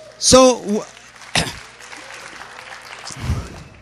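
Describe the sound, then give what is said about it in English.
A crowd breaks into applause after a loud whoop, with scattered clapping and cheering continuing at a moderate level, voices mixed in beneath the claps. “So, just make clap. I love it.”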